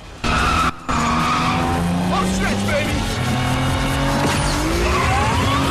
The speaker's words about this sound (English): Last turn, last turn! Too wide. The Toyota spins wide